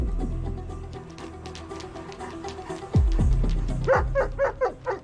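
A police dog named Rex barks in a quick series of sharp, loud yelps and barks at a bag it has sniffed, coming after a few seconds of low background rumble with no one speaking.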